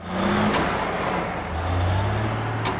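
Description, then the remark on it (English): A large truck rumbles with a steady low engine drone, and two short sharp hisses of air brakes burst out, one near the start and one near the end. “It's a truck.”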